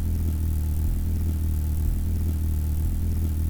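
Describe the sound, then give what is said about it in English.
A steady, low buzzing hum of a hummingbird's rapidly beating wings, flapping about 50 times per second, droning continuously with a slight wavering throughout and no voices. “When you listen to the humming of the wings, what's happening is that the bird is flapping its wings at about 50 times per second, and that means that there's 50 pulses of sound coming off the wings in two of the three cardinal directions”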